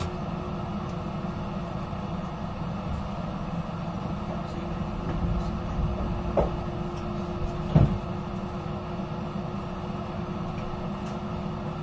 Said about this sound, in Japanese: ドアが閉まります。